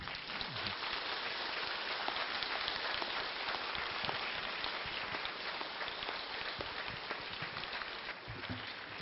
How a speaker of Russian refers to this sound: А что вы сейчас чувствуете, когда эти были аплодисменты?